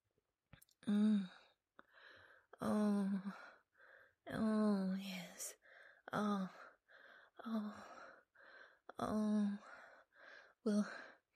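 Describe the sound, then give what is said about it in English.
Heavy, ragged, aroused breathing with voiced gasps and sighs, about a dozen uneven bursts of breath over several seconds, some loud and strained, separated by brief pauses. “You're breathing heavily, and your degrading orders are very arousing.”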